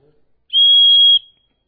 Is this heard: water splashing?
no